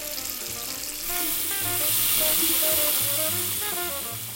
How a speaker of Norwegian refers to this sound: Og da kommer det ut i en lav hastighet når man åpner lite. Det nettopp det vi har. Nå har vi en pen og pyntelig liten stråle med lite vann.